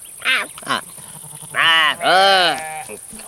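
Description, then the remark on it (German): Loud sheep bleating: two short calls followed by two longer, wavering bleats in quick succession, with faint background noise in between. “Jetzt weißt du mal, wie das ist, wenn ein Schaf an dir rumzupft.”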